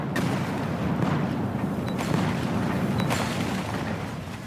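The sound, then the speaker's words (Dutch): A dense, continuous barrage of cannon fire, with heavy booms overlapping into a rumbling roar and sharper cracks breaking through at moments. No one speaks. “Kan ik een cacofonie van verschoten kruid krijgen, alsjeblieft?”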